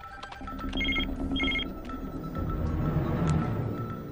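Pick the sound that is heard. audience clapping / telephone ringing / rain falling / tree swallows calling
telephone ringing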